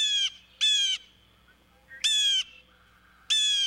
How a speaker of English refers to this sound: Prospect Park, with more than 500 acres, many of them covered in trees, fosters lots of native bird life. One denizen of Brooklyn's trees is the strikingly beautiful blue jay.